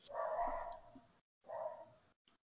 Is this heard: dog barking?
yes